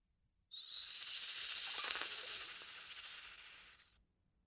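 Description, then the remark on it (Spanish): A snake's sharp, airy hiss bursts in as it attacks an old man lying on a road, holds steady for about three and a half seconds, loud, then cuts off abruptly. No voices accompany it. “Al ver al viejo tirado en el camino, la serpiente dirigió contra él su mortal instinto de ataque.”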